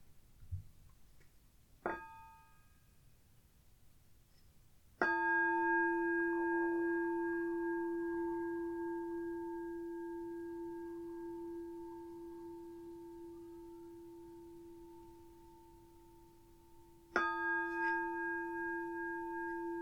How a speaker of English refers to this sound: I'm going to start with three sounds of the bell and the usual settling in introduction.